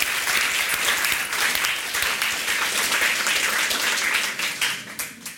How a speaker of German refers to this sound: Ein Applaus für dich.